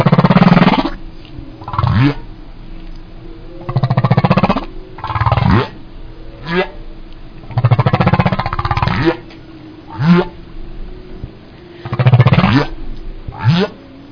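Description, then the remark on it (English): Humpback whale calls: a series of deep, rough groans and moans alternating with rising and falling whooping tones, repeating every second or two against a steady low hum, with no voices. “Can we roll the humpback whale sound?”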